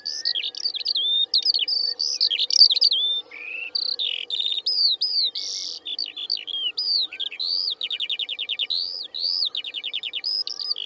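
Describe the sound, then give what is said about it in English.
A skylark sings overhead above hills in England, pouring out a continuous, rapid stream of high warbling song with buzzy trills and chirps, unbroken for the whole stretch, over a faint low background hum. “As it is, these hills are remarkable in that they hold healthy populations of bird species which have disappeared from most of England, and overhead the skylark song is probably the most familiar.”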